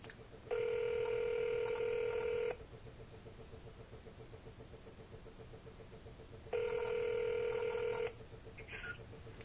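A telephone line ringing on an outgoing call: two long electronic rings about two seconds each, separated by a four-second pause, over a faint steady background hiss.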